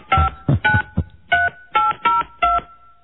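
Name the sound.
telephone keypad dialing tones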